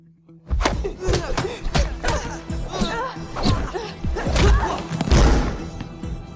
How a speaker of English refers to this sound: Act like a bitch, get slapped like a bitch.